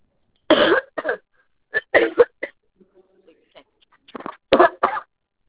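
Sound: coughing and throat clearing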